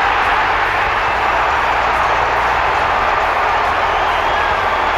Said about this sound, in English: What a win. How's the crowd? You'd think there was a full house here, boys.